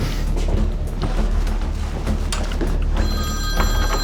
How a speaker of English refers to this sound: So I'm looking for the red duffel bag, but I hear a phone ringing in the room.